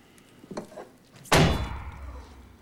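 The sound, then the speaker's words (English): A single heavy tankard slams hard onto a counter to squash a bee, a sharp loud thud with a brief ringing decay, preceded by a few faint shuffling clinks. “He spots a bee on the counter and slams his tankard down on it.”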